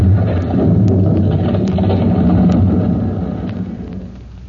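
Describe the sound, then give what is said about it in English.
A heavy, continuous rumble of debris as a fire-gutted building's interior collapses, with scattered sharp cracks and clatters on top, holding steady and then slowly dying away toward the end. No voices. “Outside the building, out in the street, Chief Cody stands for a moment silent as the echoes of the falling debris die away.”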